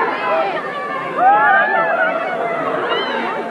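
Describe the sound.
A crowd screams continuously, with many high-pitched voices overlapping into a dense, sustained roar that swells briefly about a third of the way in and then holds steady.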